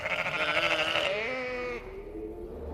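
A mountain goat lets out one long, quavering bleat, loud and nasal with a shaky vibrato, trailing off into a quieter low tail after a couple of seconds.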